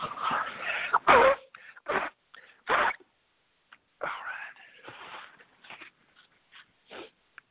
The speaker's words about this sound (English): I'll blow my nose before we start, too. Probably the first thing to hear.